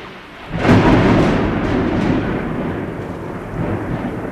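A loud, deep rumble of thunder from a storm on the horizon builds suddenly and rolls on for several seconds, slowly fading with a faint wash of rain underneath. No one speaks.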